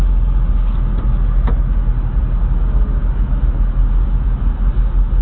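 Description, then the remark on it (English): An SSR convertible pickup truck on a test drive with the roof up: its engine drones steadily with heavy low rumble and road noise throughout, a couple of faint clicks early on, no voices. “Do you want to get the SSR, the first test drive of the day”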